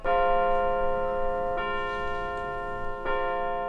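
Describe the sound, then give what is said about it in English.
A bell of Grace Presbyterian Church in Jenkintown, Pennsylvania, rung at 3 o'clock Eastern time, tolls loudly three times at a slow, steady pace, each strike blooming into a rich, sustained ring that overlaps the next, with no voices present. “Those bells from Grace Presbyterian Church in Jenkintown, Pennsylvania.”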